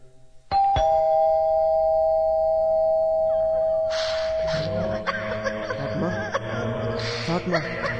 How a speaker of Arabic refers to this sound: ندق الجرس.